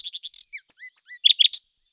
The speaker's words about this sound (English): "With the greatest pleasure," said the nightingale, and began to sing most delightfully.